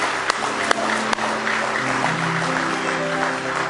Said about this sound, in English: Give the Lord a hand clap of praise if you love him. With all your heart tonight.